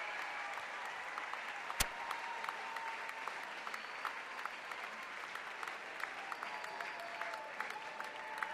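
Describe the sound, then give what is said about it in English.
A large crowd at the end of a band concert at the 9:30 Club in Washington, D.C., applauding steadily for more after the band leaves the stage, a dense wash of clapping with scattered sharp claps and whistles, holding at an even level with no speech. “The crowd still wants more, but the house lights have come up.”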